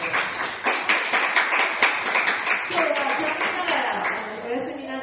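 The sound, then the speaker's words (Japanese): A church crowd breaks into steady applause for the children's program teachers as they are introduced and stand, many hands clapping in a dense, crackling wash that holds fairly loud, with some voices rising underneath toward the end. “拍手。”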